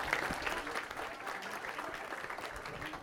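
A crowd in Pedregal de Santo Domingo claps steadily for about three seconds for the parents of the 43 Ayotzinapa students, a dense, even wash of many hands with no voices standing out.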